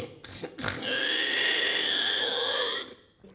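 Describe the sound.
Someone imitates a pig: two quick snorting grunts, then a loud, sustained nasal squeal lasting about two seconds before cutting off. No other talking.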